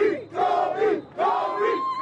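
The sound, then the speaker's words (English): A loud crowd of fans in Los Angeles cheers and yells after the Lakers won the 2020 NBA championship, paying tribute to the late Kobe Bryant, in two sustained surges with a brief dip between them, voices blending into a dense roar with high shouting tones on top. “Fans pay tribute to the late Kobe Bryant after the Lakers won the NBA championship.”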